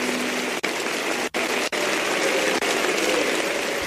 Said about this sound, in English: And the audience gives him a standing ovation, rising to their feet to applaud him.